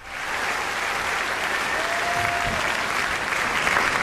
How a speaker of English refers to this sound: Oh, that walk was a bit longer than I'd anticipated, and clearly a bit longer than you'd all anticipated with the amount of applause you'd allocated for the walk.